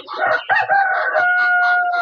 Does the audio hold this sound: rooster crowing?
yes